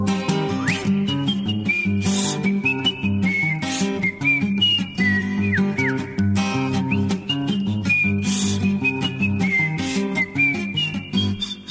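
A clear whistled melody from a children's song about a hedgehog glides over a steady instrumental backing, the tune rising and falling in smooth, sustained notes with occasional slides between pitches. No one speaks.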